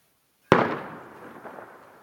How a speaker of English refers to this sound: You're approaching, you hear a gunshot.